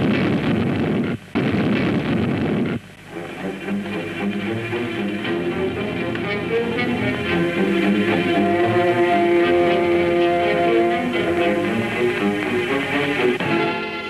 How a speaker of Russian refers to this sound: Ночь, взрыв. Дети взорвали резервуар с горючим.